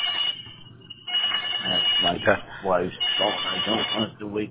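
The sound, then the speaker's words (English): The man's wife's mobile phone rings with a steady, high-pitched electronic tone over a thin, narrowband line. After about a second, a man's voice talks over the continuing ring. “That's my wife's phone. I don't want to wake her up.”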